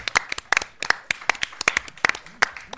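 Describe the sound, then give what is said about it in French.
A small audience at the Théâtre Cantor of the ENS de Lyon applauds performers after a 12-minute improv, with sharp, irregular hand claps overlapping at a moderate level for a few seconds, with no talking. “Je pense qu'on peut vraiment les applaudir encore une fois, parce qu'ils ont quand même tenu une impro de 12 minutes.”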